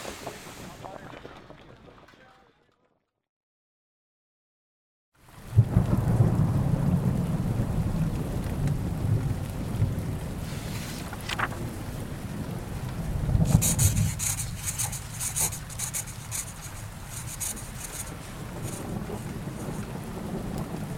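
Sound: heavy rain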